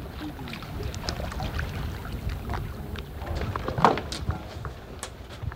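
Paddle strokes splash and drip as a kayak moves along the Hudson River at Piermont, New York, with a steady wash of water and light wind noise. A sharper splash rises briefly partway through.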